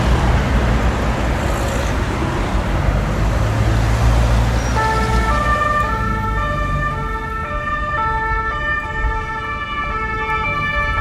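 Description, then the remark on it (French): Sirens of French CRS riot police vans wail over heavy street noise, their two-tone pitches repeating steadily as the vans arrive and grow clearer, parking just behind a convention centre, with traffic rumbling underneath throughout. “Donc là, le bruit que vous entendez, eh bien, c'est des sirènes, vous avez reconnu, des cars de CRS.”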